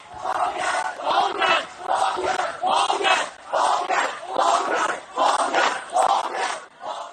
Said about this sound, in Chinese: 據多家香港媒體在星期二的網上視頻直播顯示，幾百名被捕者的家屬到示威者被關押的葵涌警署外聚集，要求警方釋放示威者，他們高喊放人的口號。